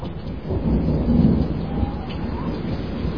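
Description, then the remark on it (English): Steady rain pours down while a deep roll of thunder rumbles beneath it, a dense, continuous storm wash that swells slightly in the middle and never lets up. “I'm an old man, and I've seen lots of Christmases come and go, and they're never white, and it's raining again and again and again and again.”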